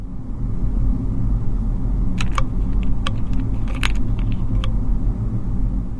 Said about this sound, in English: In the letterpress room, metal type that is used in the letterpress makes a clicking sound as I select the letters and organise them ready for printing.